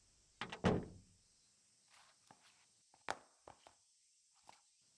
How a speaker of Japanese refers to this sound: ああ、いらっしゃい。待ってたわよ。早くドア閉めて、こっち来なさい。